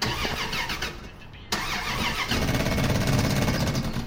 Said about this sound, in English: Now, can you just turn the engine over, please?